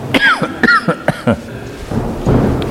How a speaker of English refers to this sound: It's one of the worst times to cough in front of people.